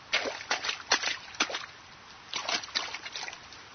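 A girl in rain boots runs and jumps through rain puddles during pouring rain, slipping: quick, sloshing steps, a short burst of splashes, a brief pause, then another run of wet stomps.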